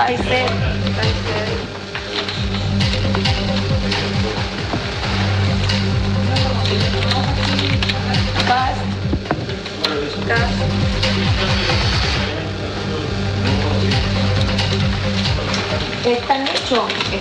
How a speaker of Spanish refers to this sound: Sí, comienza el conteo de votos aquí en la mesa 570 del Liceo Bicentenario de Viña del Mar. Escuchamos el sonido ambiente.